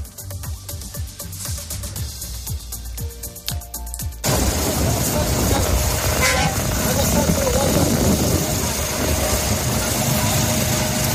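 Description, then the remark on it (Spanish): A low rumble with a few sharp clanks as the small gate, about 7 metres wide, of the Rafah border crossing between Egypt and Israel opens, giving way about four seconds in to a loud, steady wash of traffic: idling engines, honking horns and a murmur of voices. “Bueno, ha costado, pero ahí está ese sonido, el sonido del paso fronterizo de Rafah que separa Egipto de Israel.”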